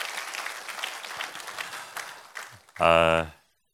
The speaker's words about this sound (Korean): 한번 힘찬 감사와 격려의 박수 부탁합니다.